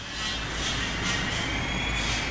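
subway train

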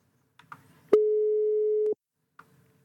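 telephone call tone

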